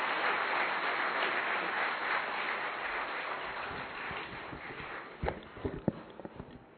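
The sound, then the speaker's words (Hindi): A crowd applauds loudly for a Coast Guard flag officer, Commander Western Seaboard, at a Rajyoga Education and Research Foundation event, with dense, steady clapping that fills the air, then thins out toward the end into a few scattered, sharp individual claps. “एक बार जोरदार तालियां सर के लिए।”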